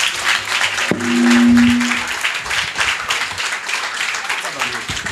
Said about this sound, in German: Dann vielen, vielen Dank für …. Noch einmal einen Applaus vielleicht.